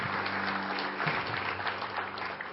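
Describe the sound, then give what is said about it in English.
A church audience applauds two ladies in a steady, dense wash of clapping that holds for the whole stretch, with a low sustained tone humming underneath. “Would you give those two ladies a big round of applause, please?”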